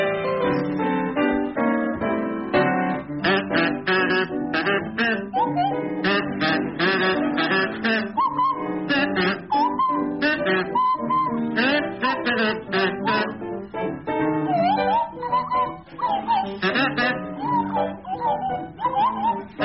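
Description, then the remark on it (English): A buzzy kazoo and a sliding swanee whistle play together, loud, in a steady run of chirpy, warbling phrases that mimic whistling little creatures chattering. No one speaks. “remember the clangers? To feature Willie Rushton on kazoo and Tim Brooke Taylor on Swanee whistle”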